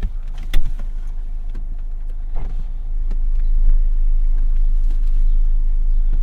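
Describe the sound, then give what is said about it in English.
Steady low road rumble of traffic builds and grows louder partway through, with a few sharp clicks and knocks and no talking. “The traffic is just insane.”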